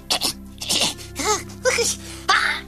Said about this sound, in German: Gesundheit, danke.